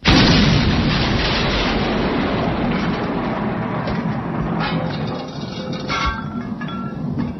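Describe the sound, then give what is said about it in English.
A loud explosion blowing doors off bursts out at once, followed by a long, heavy rumble with scattered crackles and debris-like clatter that slowly settles over several seconds. No voices are heard. “You're only supposed to blow the bloody doors off!”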